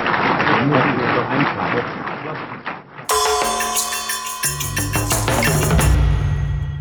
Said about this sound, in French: Je voudrais attirer votre attention sur les applaudissements qui ont suivi cette intervention. Une réaction rare dans la salle du Conseil de sécurité où règne généralement la discrétion.